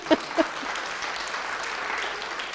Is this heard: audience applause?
yes